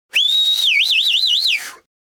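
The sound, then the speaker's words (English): A single loud human whistle to get someone's attention: a shrill note swoops up and holds, then warbles rapidly up and down several times before sliding off, with no talking around it. “We whistle when we want to get someone's attention. We whistle to show our appreciation, at a concert, for example.”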